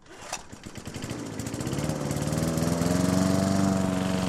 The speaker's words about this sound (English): Mowing the grass is tedious and repetitive, just the sort of thing you might like to hand over to a robot.